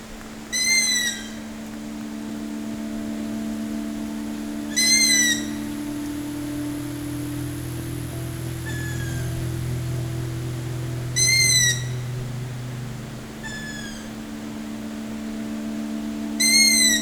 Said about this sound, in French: Les oiseaux de nuit. Forêt fascinante.